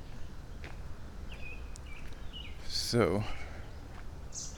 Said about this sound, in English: Yeah, and I keep hearing things going on in there. It's just birds, though. Little birdies are doing bird stuff. Messing me up. Because I keep thinking, oh, there's dudes back there. No. Just birds.